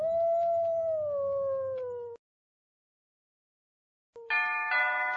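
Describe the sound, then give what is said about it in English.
A wolf lets out a long, loud howl that slowly slides downward in pitch, then falls silent before a second, harsher howl begins abruptly near the end. “But it's too late. The wolf killed all the sheep.”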